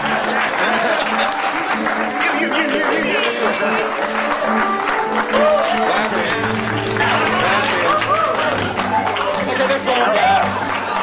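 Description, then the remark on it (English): An audience claps continuously after congratulations on Oracle Corporation's acquisition of NCT Software, a dense, steady wash of many hands that holds at a loud level throughout, with cheering voices mixed into the applause. “There must be no more clapping.”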